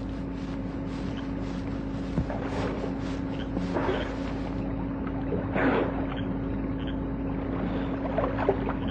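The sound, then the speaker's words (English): Gentle water splashing from someone treading water, swimming a little and shivering in a pool, with soft irregular sloshes rising now and then over a steady low hum and continuous watery background noise. No one speaks. “treads water, swims a little, shivers a lot.”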